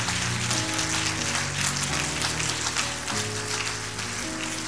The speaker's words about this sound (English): Now you can clap your hands for this message. Everybody. Come on, everybody.